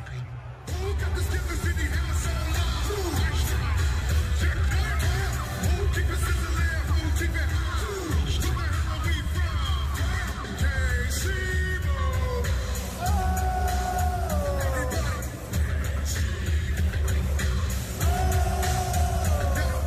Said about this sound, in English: But he was there for the crowd, like, and to hear the crowd, like, you can really hear them get behind him.